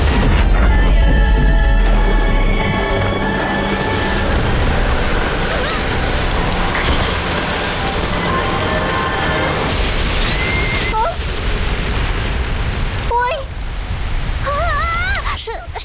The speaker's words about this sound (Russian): Обрушь на землю потоки воды. О, дождь, смой и сокруши все на своем пути.